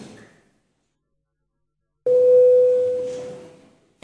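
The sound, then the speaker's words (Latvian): A single steady electronic bell tone sounds in a parliament to call a vote on a proposal, lasting about a second and a half, clear and fairly loud over murmuring, then fades out. “Lūdzu zvanu.”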